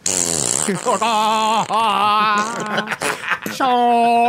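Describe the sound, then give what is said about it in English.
A man's voice imitates a gong sound effect, producing drawn-out, resonant humming tones in a few loud, wavering swells, ending on a steady sustained note. “I like how you have a gong sound effect and you made him make the gong sound effect.”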